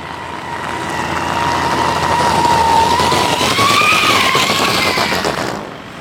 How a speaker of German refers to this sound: Fazit, es ist getuned, wie es aussieht, okay, ist eher zweifelhaft. Im Original sollte es etwas mehr knattern, so richtig wie so ein Sportwagen eben. Aber ein blubberndes Auto, das hat jetzt auch niemand.